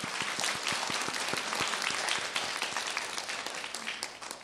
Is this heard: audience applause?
yes